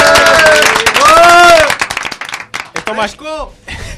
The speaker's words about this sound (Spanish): Bienvenidos, son las 3 de la tarde de Game Over, el programa de los videojuegos de Despido, un programa caótico donde los haya hoy rodeado de gente que aplauden así de fuerte, Dios mío.